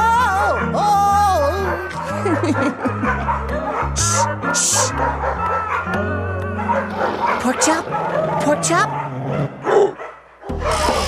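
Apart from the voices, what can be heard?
dogs barking and whimpering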